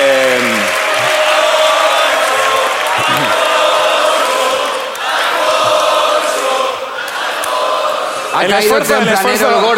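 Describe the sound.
A crowd claps steadily in a dense, continuous wash, with voices calling and whooping over it at the start and again near the end.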